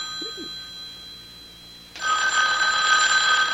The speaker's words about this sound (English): Well, Mrs. Greenway, aren't you going to answer it? Answer? The phone.